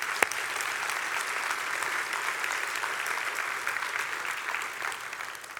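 Steady applause from an audience, given for a quoted statement by Charlie Kirk, fills the whole stretch, a dense wash of many hands clapping at once, sustained and fairly loud before easing slightly at the end.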